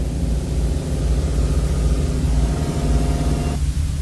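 The 25-horsepower diesel engine of a munitions loader weighing about 3,800 pounds runs loudly, a steady throbbing rumble with a broad noisy hiss on top. Its tone shifts and drops slightly just before the end. No one speaks.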